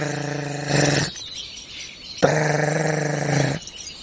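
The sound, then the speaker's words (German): A lesser spotted woodpecker drums on a thin dead trunk in two long, loud rolls, each about a second, so rapid they blur into a buzzy, high-ringing tone, separated by a short pause. “Der Kleinspecht sucht sich viel kleinere Resonanzkörper, also dünnere tote Stämme, die dementsprechend auch höher klingen. Und er hat einen längeres Klopfen.”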